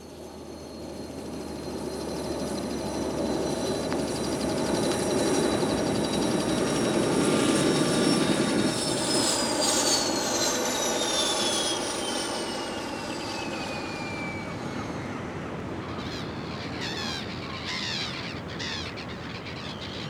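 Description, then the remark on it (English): A helicopter flies by with a loud, steady roar and a high turbine whine that drops in pitch partway through, then settles into a rougher, fluttering drone as it arrives at an oil rig. No voices. “Kate, Sam and Josie arrived at the oil rig by helicopter.”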